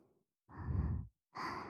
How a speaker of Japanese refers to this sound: 先ほどからメイドの吐息が耳に当たるたび、背筋をゾクゾクと震わせておりますので